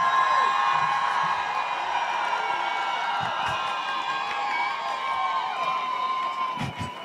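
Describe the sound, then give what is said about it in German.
A large crowd at a demonstration screams and whoops together at full volume in solidarity with Iranian women, a dense, sustained roar of many voices that holds steady for several seconds before tapering slightly at the end. “Das heißt, von uns wird jetzt eigentlich erfordert, schreien, was das Zeug hält. Und das machen wir.”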